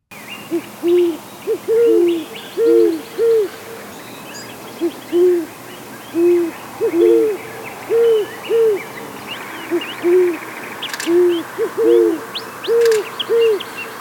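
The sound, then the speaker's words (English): A male and a female great horned owl hoot back and forth in a steady duet, the male's voice lower than the female's, their soft rhythmic hoots repeating over a faint outdoor hiss with no talking. “Now, this call has both the male and female calling together.”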